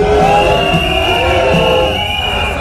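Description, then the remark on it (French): A protest crowd of workers in front of the entrance of a Citroën site, demanding 300 euros, blows whistles nonstop, several shrill, steady tones overlapping above a dense, loud roar of voices and clamor that fades slightly toward the end. “Et là, il y a autant de sifflets parce qu'en fait, on est devant l'entrée, c'est ça, des voilà, visiteurs.”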